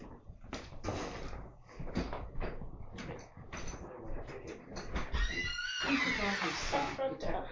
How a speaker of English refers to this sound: No, we got front door opening.